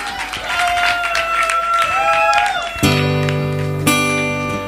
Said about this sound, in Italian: Dai, fatemi un applauso, per favore.